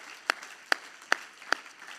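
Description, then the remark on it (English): A crowd claps their hands to Jesus in a steady unison beat, four sharp claps about half a second apart, over a soft wash of background noise and scattered applause. “Everybody clap your hands to Jesus.”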